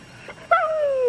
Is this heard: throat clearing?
no